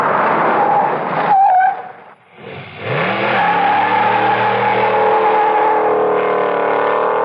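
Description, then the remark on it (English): A car engine runs loudly, drops off briefly as if braking to a stop, then revs back up and accelerates away with a steady, rising drone, a car stopping and starting. No voices. “Stopping and starting too much.”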